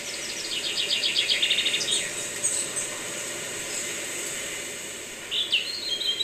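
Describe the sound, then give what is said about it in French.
A soft, steady rustling hiss of wind moving through the leaves of tall poplar trees, with bursts of high, rapid bird chirps early on and again near the end. No one speaks. “C'est vraiment le vent qu'on entend dans les peupliers.”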